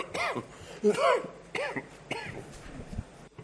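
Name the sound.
coughing fit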